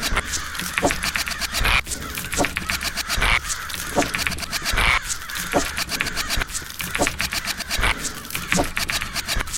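crows cawing

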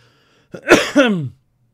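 coughing into the microphone

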